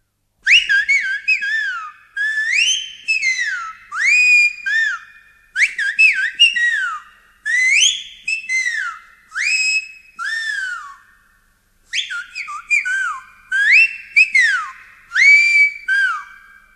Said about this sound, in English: In the Grisons in southeastern Switzerland, youngsters still use the so-called marble fifes to call their goats.